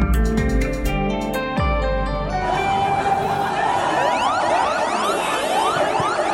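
Hundreds of fire engine sirens in Bangladesh sound together in mourning after a deadly industrial accident: a loud mass of wailing sirens sweeping up and down at once, many overlapping tones rising and falling, with a low rumble and crowd murmur beneath and no clear speech.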